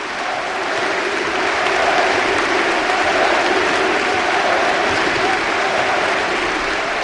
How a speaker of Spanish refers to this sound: Espera, profe. Mira, ovación en pie. Sí, sí. El palacio se retira la provícola.